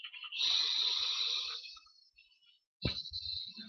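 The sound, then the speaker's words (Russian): A slow, deep breath drawn in through the nose during a guided meditation breathing exercise, airy and hissing for about a second. After a brief silence another breath sound begins. “Снова вдох.”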